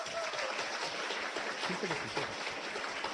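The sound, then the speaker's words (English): An audience claps steadily in a dense, continuous burst while voting by applause on which topic to discuss, with a few scattered cheering woos rising from the crowd partway through. “There were a few woos in that last one.”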